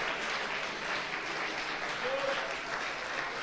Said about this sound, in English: Can you clap your hands and say amen? Können wir noch mal Hände klatschen?